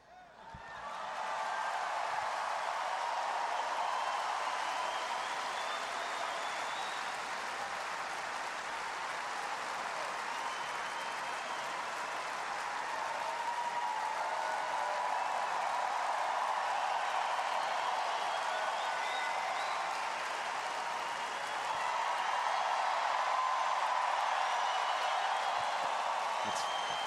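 stadium crowd applause

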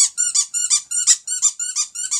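squeaky dog toy squeaking

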